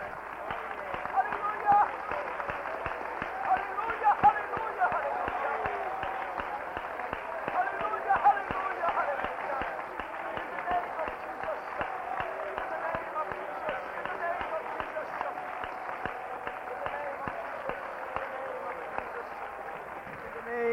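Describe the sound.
A large group claps their hands together for the Lord before being seated, in a steady, dense wash of applause that carries on for the full stretch at an even level, with indistinct voices mixed in beneath.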